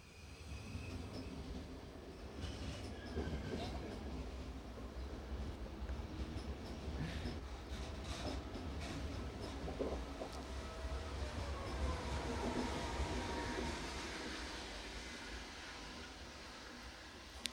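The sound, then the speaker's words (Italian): A train rumbles past for the whole stretch, a steady loud roar of wheels and rail noise with metallic squeals and rattling clatter rising and easing slightly, no voices. “No, c'è il treno, fantastico.”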